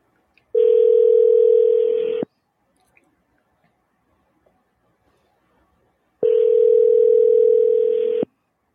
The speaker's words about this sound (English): Let's find her phone number and my phone. Here we are. And we are calling.